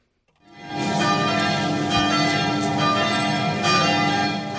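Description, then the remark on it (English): Church bells ring out over the rural French town of Trèbes on a Sunday as mourners pack the church for a service for victims of a terrorist attack, a dense, continuous peal of overlapping tones hanging together loudly and steadily after a quick fade-in, with no voices. “The sound of church bells filled the rural French town of Trèbes on Sunday as hundreds of mourners packed a church for a service the victims of a terrorist attack.”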